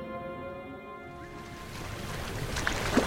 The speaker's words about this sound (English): While Kenton pondered the matter, a boat was crossing the lake toward the DM. On board were three passengers, Chris, Bayon, and their guide, Ntis, as well as the ferryman who navigated the currents with deft experience.